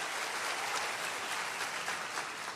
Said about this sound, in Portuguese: Você crê nesse negócio? Então aplauda Ele bem forte em nome de Jesus.